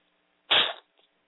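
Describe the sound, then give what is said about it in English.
A single harsh, breathy cough from a person with a cold bursts out sharply and fades within a moment, followed by a brief faint sniff-like sound, with no talking. “Please accept my apologies for the sniffing and the coughing, but I am having a cold.”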